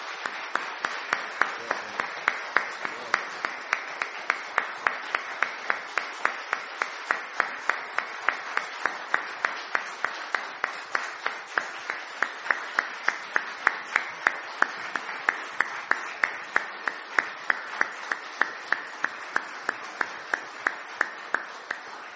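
A large church audience claps steadily indoors for about twenty seconds, the applause dense and sustained with a faint regular pulse, like many hands falling into a shared rhythm, with no talking.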